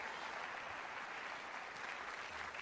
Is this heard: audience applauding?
yes